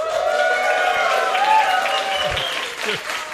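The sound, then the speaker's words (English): An audience at the live Roll for Topic Con 2025 event in a big room claps steadily for a few seconds, a dense wash of many hands with some cheering voices mixed in, fairly loud throughout and easing slightly toward the end. “Thank you for clapping.”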